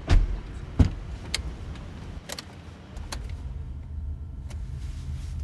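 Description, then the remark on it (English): A few sharp clicks and thumps at the start give way to a soft, steady low rumble as a Coda electric car starts up, pulls away and drives quietly around town, even when accelerating quickly, with no engine roar and no voices. “When Zinger starts up the car and drives around town, it makes almost no noise, not even when he accelerates quickly.”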